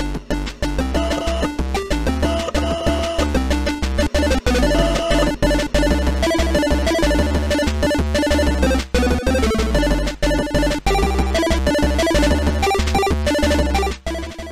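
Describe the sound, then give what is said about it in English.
Energetic theme music from the Atari ST game Rock and Roll Clams plays on its own, with bright, buzzy synthesized tones over a driving bass line, loud and busy throughout with a steady rhythmic pulse. “So, first thing to notice, if you've ever listened to the show and you've wondered to yourself, where does that theme music come from? It comes from Rock and Roll Clams.”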